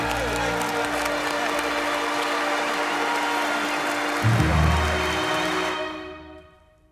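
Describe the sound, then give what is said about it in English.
Sustained applause from a large concert audience at Carnegie Hall in New York, a dense steady wash of clapping that holds for several seconds before tapering off and fading to silence. “I must have blacked out, and then when the audience applauded, I came too.”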